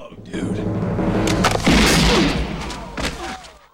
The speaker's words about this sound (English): Mad Dog draws and shoots Marty, who crashes to the ground.